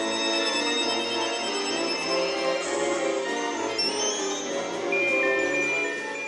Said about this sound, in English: Crowd imagination and participation aside, the night's most audible ringtones were performed by the musicians on stage.